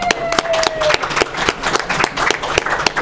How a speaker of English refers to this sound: Oh, future me, those claps were not for edits.